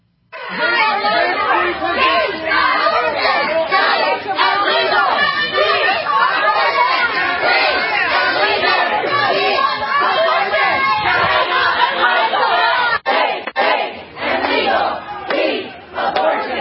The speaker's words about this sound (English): But they're at their homes screaming, yelling by the thousands, 24 hours a day, and the left is celebrating this.